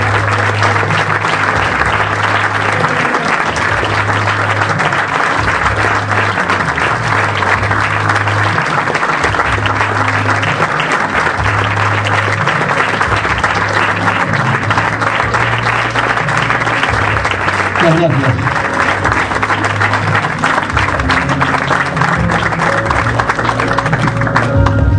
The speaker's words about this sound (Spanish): Fuerte el aplauso para todos los premiados.